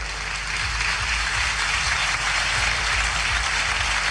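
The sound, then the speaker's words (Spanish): Sustained applause from a large crowd of Constitutional Assembly members standing to give an ovation for the words of Nicolás Maduro Jr., a dense, steady wash of many hands clapping at once with no pauses, loud and continuous throughout. “Con una ovación, los parlamentarios de la Asamblea Constitucional se ponen de pie, además, para aplaudir las palabras de Nicolás Maduro Jr.”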